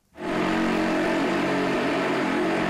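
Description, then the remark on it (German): A motorcycle engine kicks in and roars steadily at high revs, loud, as a woman performer races the bike in circles round the steep wooden wall of a wall of death at a fairground on the Indonesian island of Java. “rast mit ihrem Motorrad auf einer Steilwand im Kreis.”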